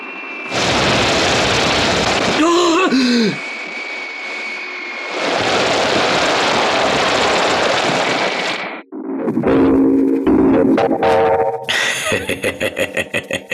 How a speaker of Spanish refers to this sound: Pero en este momento, tremendas explosiones se producen en el cielo.